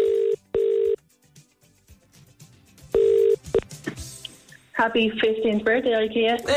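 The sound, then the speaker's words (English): A telephone ringing tone sounds in short, steady electronic bursts, two quick rings then another after a pause, before a voice starts talking. “You know what you got to do when you answer the phone.”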